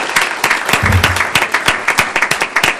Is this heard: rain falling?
no